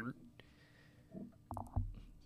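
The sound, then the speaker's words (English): A suppressed burp held in the throat by a person speaking into a microphone, not coming out of the mouth: a few short, muffled low gurgles and rumbles, fairly quiet, with a faint click or two. “I keep, like, burping inside myself. Like, it doesn't come out of my mouth.”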